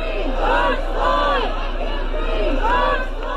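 crowd shouting at protest

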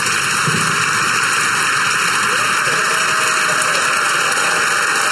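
audience clapping

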